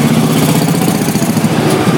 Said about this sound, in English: What's up, motorbike? BSA.